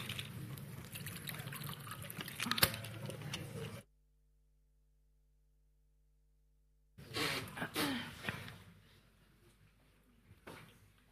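Water pours into a glass in two bursts of trickling and splashing, separated by a few seconds of silence, then fades to a faint dribble.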